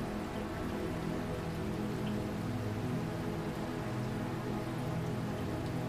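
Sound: heavy rain pouring down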